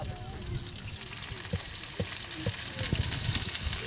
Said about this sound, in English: Fried fish is prepared outside a small dwelling. This village of a few hundred people is not far from the sea, and fish is one of the few fresh foods that villagers can easily find.